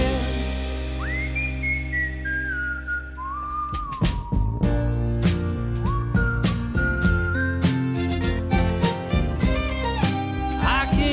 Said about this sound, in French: Ah non, il siffle aussi bien